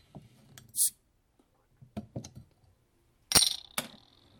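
beer bottle being opened

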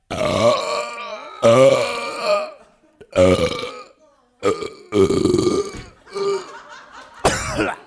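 long burp

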